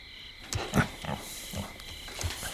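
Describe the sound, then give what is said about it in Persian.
A clock sounds a coyote call in a string of short, rough yipping bursts with uneven gaps, moderately loud over a faint steady high-pitched hum, with no one talking. “چیزی نیست، ساعت صدای کایوته.”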